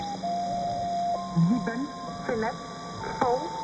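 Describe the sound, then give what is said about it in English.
A shortwave station broadcasts a short chunk of music: a tinny melody of a few sustained electronic notes through crackly shortwave radio static, with steady whining carrier tones humming underneath throughout. “Some broadcast little chunks of music.”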